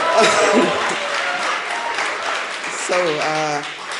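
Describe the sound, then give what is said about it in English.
An audience breaks into steady applause, a dense wash of many hands clapping at once, with a few cheers and whoops rising over it toward the end. “But I am in the midst of a transition, so we can clap for that.”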